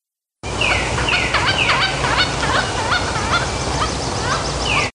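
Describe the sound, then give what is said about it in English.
A pileated woodpecker calls loudly in rapid ringing notes tumbling in a steady series, broken by a few sharper down-slurred cries, with no voices present. “The sound of the day is the pileated woodpecker.”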